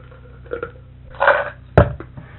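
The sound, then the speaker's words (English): Crunching on food: a few crisp, crackly chews, with a louder grinding burst in the middle and a sharp, loud crunch near the end, heard alone without talking. “no, I'm just crunching on it. That's all.”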